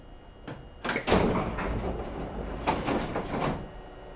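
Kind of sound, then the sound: vehicle, train sliding doors closing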